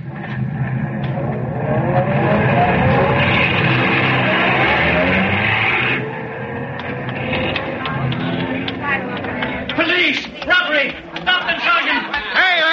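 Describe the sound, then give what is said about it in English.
A getaway car's engine roars loudly and revs up as the vehicle accelerates away after crooks rob a bank of payroll money, a steady rising drone for several seconds, then voices talk over the fading motor. “In the car, you two.”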